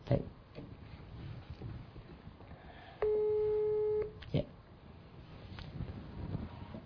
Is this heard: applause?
no